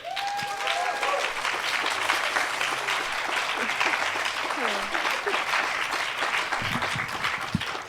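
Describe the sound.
An audience applauds steadily for several seconds to welcome a guest speaker, a dense wash of many hands clapping at an even level, with a few brief voice fragments and whoops poking through early on.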